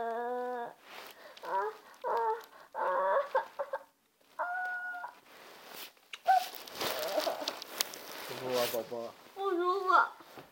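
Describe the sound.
A chicken clucks in a series of short, raspy bursts, pausing between calls, with a stretch of noisy rustling and people's voices in the middle.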